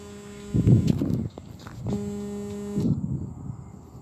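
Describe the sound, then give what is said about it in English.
An alarm goes off in two steady, buzzy electronic tones rich in harmonics, each sounding for about a second, with rumbling bursts of noise between and after them. No one speaks. “Sorry about that. That was an alarm.”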